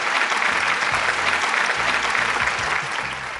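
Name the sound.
applause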